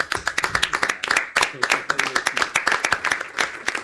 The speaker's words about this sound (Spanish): Y este aplauso, Julio, de todos nosotros es para vos.